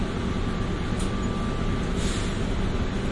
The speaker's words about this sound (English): aboard the plane train. Please hold on. This train is departing.